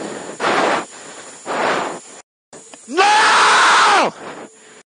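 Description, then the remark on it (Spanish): Formula 1 driver Leclerc screams over a crackly team radio during a race, one long, loud, strained yell lasting about a second, preceded by short bursts of hissing radio static. “¿Qué tal ese grito de Leclerc?”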